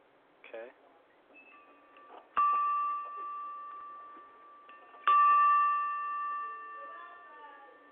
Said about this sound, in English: Okay, would you be able to ring the bell? I need to make sure it's ringing at the right frequency.